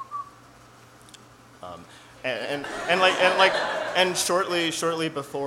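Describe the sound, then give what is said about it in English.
A person vocally imitates the quail call that the woodwinds imitate in the second movement of the Sixth Symphony. It is a fairly loud run of quick, bright, pitched chirping syllables that follows a brief quiet stretch. “There are a number of woodwinds that are imitating the different bird calls, and one of them is a quail.”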